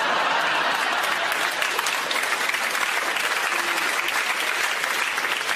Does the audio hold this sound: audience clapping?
yes